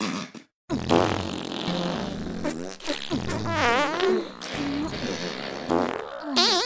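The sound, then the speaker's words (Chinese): A long, loud string of cartoonish farting sound effects as three fox spirits fart together in a cave, several blasts overlapping with wobbling, squeaky pitch, running almost continuously after a brief silent gap near the start. “不过也没别的办法。姐妹们，我们一起放屁。”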